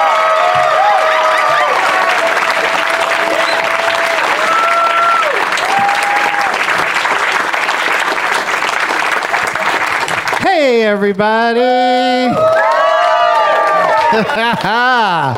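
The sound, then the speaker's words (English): A crowd at Flappers Comedy Club claps loudly and steadily for about ten seconds, with scattered cheers rising above the dense applause, then a man's voice begins speaking as the clapping fades. “Let's read to this fired up crowd.”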